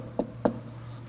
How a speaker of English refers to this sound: The devil will come and knock on your door.